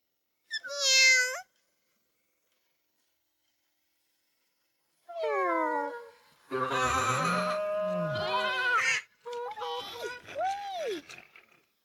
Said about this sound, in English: Where is my baby? Here's my kitten.